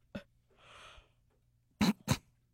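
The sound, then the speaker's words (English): A yawn: a soft, drawn-out breathy inhale followed by two short, forceful voiced bursts of breath, with no one talking. “I had to yawn.”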